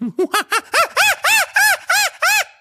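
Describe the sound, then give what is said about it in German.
A person imitates a chimpanzee with about nine loud hooting calls that climb steadily in pitch and grow into sharper, shrill whoops, delivered in a quick, even rhythm. “Mach mal einen Schimpansen.”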